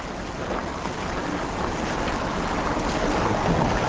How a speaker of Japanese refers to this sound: でもね、カーブのおかげで前の方に山がなんか水の音がしますね。 この米の津川、 あ、まさにどれくらいの大きさがあるかよくわかりません。